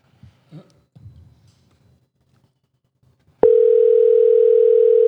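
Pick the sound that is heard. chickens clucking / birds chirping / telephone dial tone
telephone dial tone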